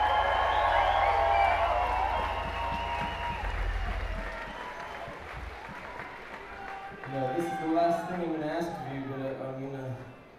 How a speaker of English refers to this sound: It's the loudest applause of the night because this one goes out to all the crew that you can't see that make this gig happen.